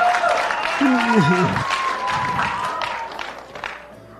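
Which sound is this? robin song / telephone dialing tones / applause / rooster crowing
applause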